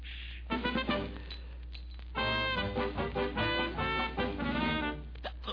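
Glasses clink together in a few bright, ringing bursts, each strike leaving a shimmering tonal ring that lingers and overlaps the next, with no talking.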